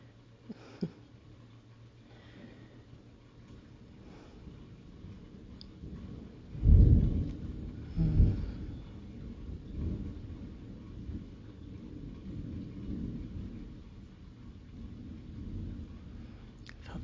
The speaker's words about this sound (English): If I get too cozy, I can't keep the rain out all night. I gotta go put the window back down.